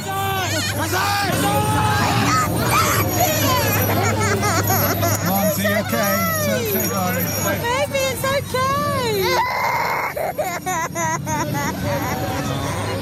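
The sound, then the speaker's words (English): Several children cry and scream at once, high wavering wails rising and falling over a steady crowd hubbub, continuous and loud throughout, at a Santa parade for Miklós in a big city on the evening of December 5th, 2018, as his demon helpers appear. “Crying children, including my own. That's a lot of screaming and terror for a Santa parade.”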